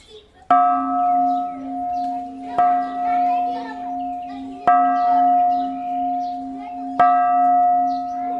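Bells at the Shwedagon Pagoda in Yangon, Myanmar, are struck four times by tourists as a purification ritual, at a slow, steady pace, each strike ringing out clearly and humming as it fades, over a faint background of chirping and children's voices.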